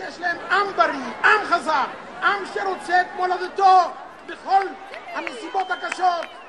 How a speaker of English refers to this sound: This protest in a Gaza settlement was peaceful and big. The Israeli press put the crowd at 15,000, most of them bussed in from the occupied West Bank.